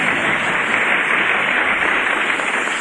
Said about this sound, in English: You folks can applaud if you want to.